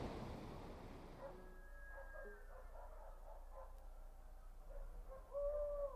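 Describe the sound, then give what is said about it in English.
At 3 o'clock, roosters and chickens call in a run of repeated tonal cries, mixed with dog barks over a low rumble, ending in a longer, louder drawn-out crow. No one speaks. “What's that noise? Those are chickens. Roosters. And dogs.”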